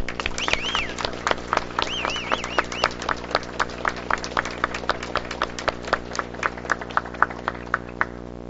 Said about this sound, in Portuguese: Vocês merecem o nosso aplauso e de pé nós vamos aplaudir vocês três aqui representando a imprensa.